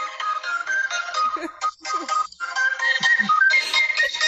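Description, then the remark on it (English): A custom phone ringtone made of Apple loops layered on top of each other plays a busy electronic music loop of bright repeating tones, loud, running continuously without any talking. “I have the ringtone on my phone”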